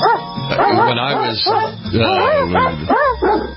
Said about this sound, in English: It's just a keyboard with a barking dog assigned to each key